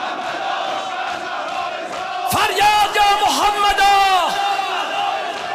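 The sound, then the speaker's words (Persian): A crowd murmurs, then a large group of voices breaks into a loud, sustained shout together, the pitch swelling and wavering for a couple of seconds before settling back into crowd noise. “فریاد باید فریاد کنید.”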